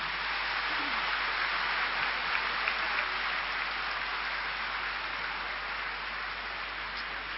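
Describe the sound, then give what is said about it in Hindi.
Sustained loud applause from an audience at a celebration, a dense, even wash of many hands clapping that holds steady for several seconds without letting up. “आए वाले आज का दिन है बाबा को बहुत थैंक्स देने का, खुशी मनाने का, जोर से ताली बजाएंगे।”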